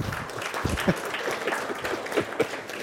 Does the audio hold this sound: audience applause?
yes